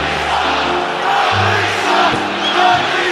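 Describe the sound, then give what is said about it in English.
A loud arena crowd at a basketball game roars and hollers continuously, a dense wall of many voices with rising shouts of hostile jeering aimed at Dudley as he comes out of the game, with the Sixers leading 14-0, sustained throughout. “The crowd with some pleasantries for Dudley on his way out of the game.”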